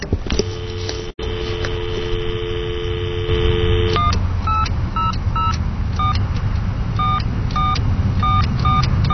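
A steady phone dial tone hums for a few seconds, then gives way to a quick, evenly spaced run of touch-tone beeps as a number is punched in, over a constant background hum.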